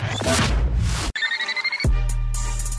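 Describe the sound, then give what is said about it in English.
A brief electronic telephone ring, a steady bright trill lasting under a second, sits between a burst of noisy sound and the start of bass-heavy music. “To call into the HR&P listener line, dial 713-780-ESPN. Dial the phone.”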